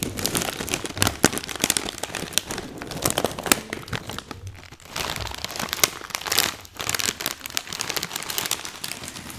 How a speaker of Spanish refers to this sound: Es una bolsa. Crujiente.